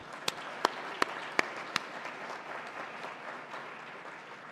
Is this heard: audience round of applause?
yes